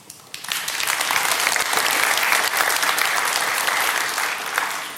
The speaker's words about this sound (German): Aber von daher einmal großen Applaus vielleicht für die hier dargestellten Organisationen, die wirklich sehr hilfreich mit dabei waren.